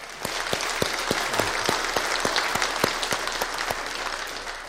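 An audience in a church sanctuary applauds steadily for several seconds for the people who decorated the sanctuary, a dense wash of many hands clapping with a few sharper claps standing out, with no talking over it.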